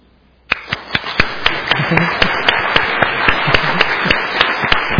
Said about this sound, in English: So first of all we did the clapping.